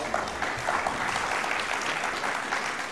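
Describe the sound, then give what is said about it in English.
An audience claps steadily, a dense, even patter of many hands filling the room at moderate volume, with no break and no voices standing out. “You can clap if you want.”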